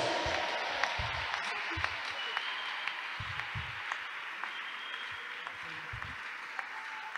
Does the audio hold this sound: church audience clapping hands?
yes